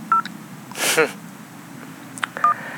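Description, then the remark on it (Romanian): Short electronic alarm beeps from a GSM mobile phone: a brief two-tone chirp, then a loud noisy burst, and another steady beep near the end, each fairly loud above a low background hum. “Jagardeaua mea GSM are alarmă.”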